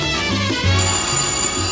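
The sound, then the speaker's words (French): A telephone ringtone plays on its own on the radio show La radio sauvage, a steady melodic electronic ring with a repeating tonal pattern at a constant, moderate loudness and no voices. “Le téléphone.”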